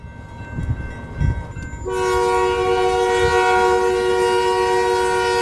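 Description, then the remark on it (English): An oil tanker train more than a mile long creeps past a railroad crossing near Berthold, North Dakota, on a freezing day at minus five, rumbling with low clanking; then a loud, sustained multi-tone horn blares and holds steady over the rolling rail noise. “I'm standing at a railroad crossing by Berthold, North Dakota. It is freezing, minus five, and I'm watching an oil tanker train creep past me.”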